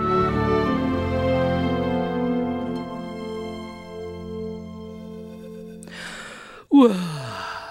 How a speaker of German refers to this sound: Lotte gähnt kräftig. Das Toben nach dem Kindergarten auf dem Museumsspielplatz hatte ganz schön angestrengt. Jetzt war es draußen schon dunkel und sie richtig müde.